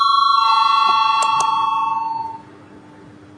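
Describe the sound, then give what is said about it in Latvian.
A parliamentary voting call bell rings steadily with a bright metallic tone, sustained and electric, interrupted briefly by two sharp clicks, then fades out into quiet hum. “Lūdzu zvanu.”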